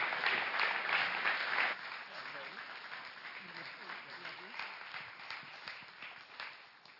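An audience breaks into applause one morning to welcome a visiting woman missionary as she comes up, a dense wash of clapping that is loudest for the first couple of seconds, then settles to a steadier, softer patter that carries on to the end.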